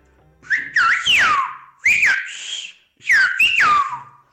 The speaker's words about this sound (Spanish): Y ahora voy a silbar, por ejemplo, una expresión mucho más común, como por ejemplo cuando no entiendes una frase y dices, yo no te entiendo.